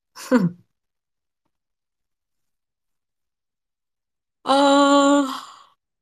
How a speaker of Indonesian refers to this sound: aku udah nguap-nguap aja gitu ya jam segini, astaga.